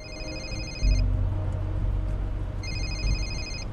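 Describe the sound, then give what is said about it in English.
Navi's cell phone, fitted with a signal scrambling device, rings twice with clear bright electronic trills and a pause between them. A steady low engine rumble runs underneath from inside a moving car as he and Dina drive to the train station. “Navi's cell phone rings.”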